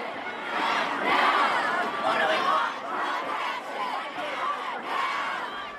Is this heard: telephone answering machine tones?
no